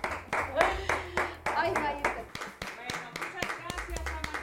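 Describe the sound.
Steady rhythmic clapping, a string of sharp, evenly spaced claps from what sounds like one or a few people, running under a voice and a low background hum.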